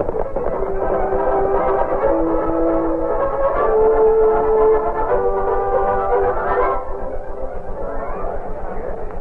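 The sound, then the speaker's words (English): A supply train from Omaha arrives at Carson's Bend in the early morning, rolling along the rails with a steady, loud rumble, long sustained horn-like tones sounding over the clatter throughout, continuous for the whole stretch. “It was early morning when the supply train from Omaha reached Carson's Bend.”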